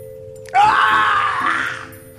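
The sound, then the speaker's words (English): A loud, sustained scream of pain from a single voice, performed in a script reading as a character runs out, starting abruptly, holding strong for over a second, then trailing off, with no speech over it. “She reacts as Gottfried runs out, screaming in pain.”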